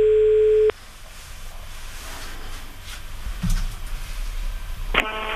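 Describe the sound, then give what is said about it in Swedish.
A loud, steady electronic phone tone as Mix Megapol's morning show calls a woman for a prank call; it sounds for under a second and cuts off, followed by quiet line hiss, a soft click, and a brief burst of tones near the end. “I den här luringen så ringer vi upp en kvinna som har rullat in i en biltvätt med sin bil.”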